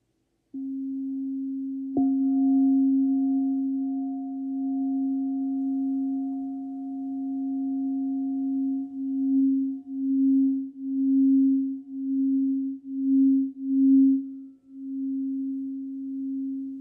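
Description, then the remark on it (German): A crystal singing bowl with tiger's eye applied to its outside rings with a pure, steady low tone and a fainter higher overtone, sustained for many seconds, then pulsing in slow rhythmic waves of loudness before settling back to a steady hum. “Genau, und dann noch eine Kristallklangschale.”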